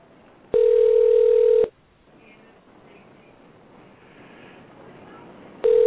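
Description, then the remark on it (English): A phone line ringing back as a dropped caller is called back: a loud, steady mid-pitched ring tone lasting about a second, a quiet stretch of faint line hiss, then the next ring beginning. “Well, it's ringing.”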